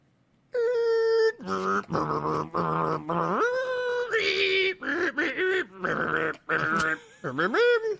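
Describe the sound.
A voice imitates a dial-up modem connecting, a loud, continuous run of harsh, buzzy tones, squeals and warbling pitch jumps lasting several seconds with brief breaks between bursts.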